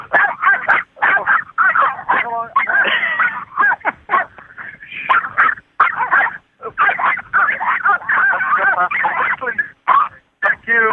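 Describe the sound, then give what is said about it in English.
Two small dogs bark and yap at somebody on a narrow road in Ireland, rapid overlapping bursts, a loud, nearly continuous volley of sharp high yips with only brief pauses between them. “Come now they're barking at somebody.”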